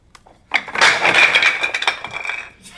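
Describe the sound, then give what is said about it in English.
A Jenga tower of wooden blocks falls over in a sudden loud clatter, a dense burst of sharp clicks and knocks that continues for about two seconds before trailing off. “For those listening to the audio podcast, the Jenga tower just fell over.”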